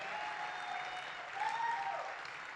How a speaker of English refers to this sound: Come on, you can give a better hand clap to the Lord. It's a miracle.